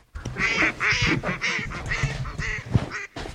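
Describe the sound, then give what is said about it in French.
Several ducks quack in a rapid, overlapping series of loud, nasal calls that continue steadily from start to finish, with no voices. “où il va peut-être y avoir un vol de canard entre temps.”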